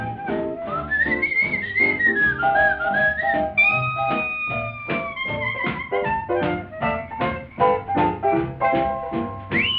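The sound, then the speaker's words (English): A person whistles a bright, wavering melody, the notes sliding and bending over a steady, rhythmic instrumental accompaniment that continues throughout. “I love to whistle, yeah.”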